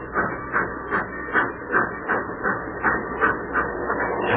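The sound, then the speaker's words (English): A steam-powered freight train rolls steadily along the rails, its rhythmic chuffing bursts repeating about three times a second over a continuous rumbling clatter, with no voices. “The old boiler up front's got the steam on.”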